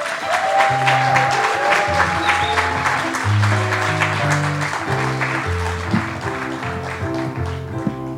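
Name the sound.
audience applause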